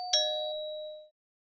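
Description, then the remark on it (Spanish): A doorbell at grandmother's house chimes once as the wolf calls at the door in a Little Red Riding Hood story, a bright, clear ding that rings for about a second and then fades into silence. No one speaks. “Cuando llegó a la casa, llamó a la puerta.”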